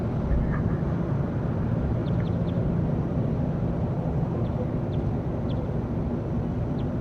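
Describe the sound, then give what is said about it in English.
Faint, high bird chirps from bird number 35 sound briefly every second or so, nearly buried under a loud, steady low rumble that fills the whole recording. Nobody speaks. “This is all bird 35 in the background.”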